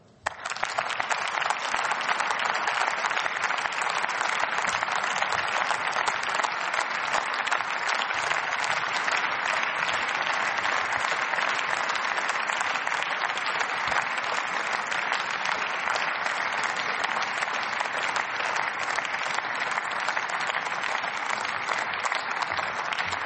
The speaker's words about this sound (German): Lieber Herr Kollege Matschi, der Beifall fast des ganzen Hauses drückt aus, welche Wertschätzung Sie sich in diesen drei Jahrzehnten, nicht nur in diesem Parlament, sondern in unserem Land erworben haben.